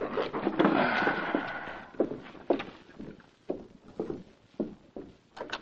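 knock

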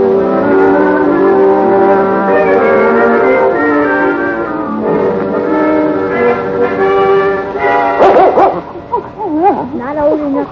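dog barking and whimpering

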